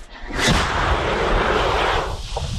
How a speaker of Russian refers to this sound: Це міномет, так? Так.